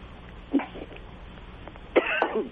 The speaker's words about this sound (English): who's coughing in Vermont there or in Massachusetts